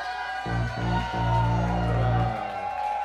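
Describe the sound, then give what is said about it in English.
A small crowd of about 20 people yells and cheers loudly and continuously, a dense wash of voices and whoops that stays steady for a few seconds. “think they're gonna do another one unless you guys really keep yelling.”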